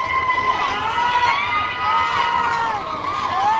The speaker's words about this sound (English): At Baghdad's main amusement park, there are screams of happiness and excitement as the roller coaster dives down the track.